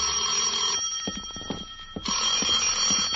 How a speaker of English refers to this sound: So after breakfast, I settled back to await developments. At 10, my phone rang.